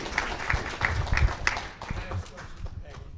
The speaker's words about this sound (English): I want to say, at least for myself personally, so I give you a round of applause.